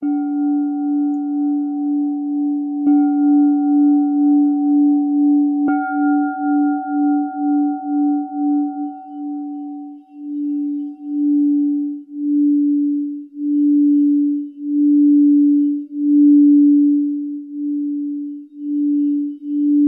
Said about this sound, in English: There's one other thing that's really cool about bowls is when you're ringing it, it will create a lower note. And then when you tap it, it creates a higher note. And that higher note, when it lasts a really long time, I really like that.